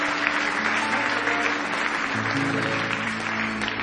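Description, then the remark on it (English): A large audience at a church service claps steadily in praise, a dense, continuous wash of many hands applauding together, with faint sustained tones humming underneath. “Give me one more hand clap of praise if you love him tonight.”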